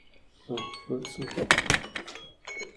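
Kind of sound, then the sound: signal or alarm, phone alarm going off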